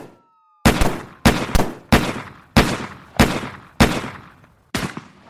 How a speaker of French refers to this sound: 11h24, premiers échanges de coups de feu entre les policiers et les deux adolescents.